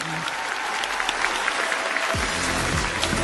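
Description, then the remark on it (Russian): A crowd applauds steadily, dense clapping throughout, with a man's voice starting to speak over it near the end. “Давайте, давайте аплодисментами поддержим.”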